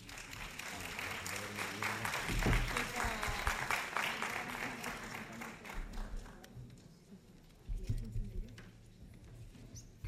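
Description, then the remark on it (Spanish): An audience applauds to welcome the panel at the start of a round-table discussion, with dense, steady clapping that swells in the middle and then thins out, some mixed voices and murmurs underneath, before a few scattered claps and talking take over. “Un aplauso muy fuerte.”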